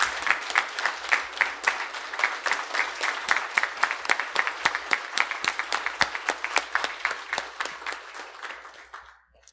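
An audience breaks into a steady round of applause to thank a person, dense overlapping claps sustained for several seconds before gradually tapering off at the end.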